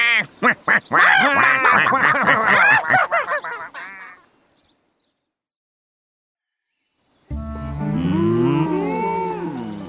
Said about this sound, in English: Here are some cows. They're big cows.